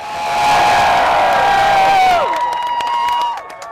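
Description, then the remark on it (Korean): A large crowd in front of the US Supreme Court building in Washington, DC cheers and screams loudly at the Court's decision legalizing same-sex marriage, with high-pitched whoops rising above a dense roar that swells and then begins to thin out near the end, broken by scattered clapping. “동성결혼을 합법화한다는 대법원의 결정에 사람들의 환호성이 터져나옵니다.”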